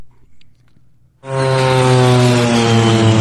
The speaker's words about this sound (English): it starts with a groovy airplane noise. Listen to this.